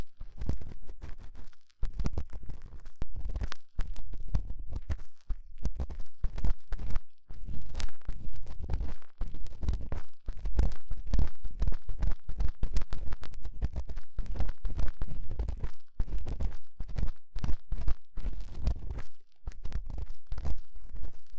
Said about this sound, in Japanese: 足音うるさくない？もういろいろ踏みつけすぎて、何の音かわからなくなっちゃって。